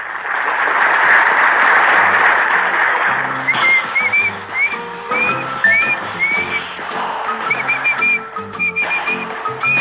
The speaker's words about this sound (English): Herman Hammelheimer is going to dance for you. Here he is. Give a big hand for Herman, the whistling tap dancer.